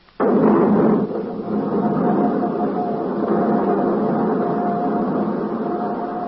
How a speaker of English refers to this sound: I'm ready to fire. Hold it. Okay, all set to fire. Clear? Clear. Starting right jet.